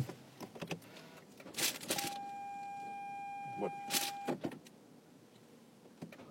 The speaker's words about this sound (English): Alright. Apparently I did not hit the button long enough to start the car.